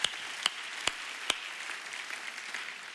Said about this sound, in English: Come on, let's clap to Jesus one more time. Hallelujah.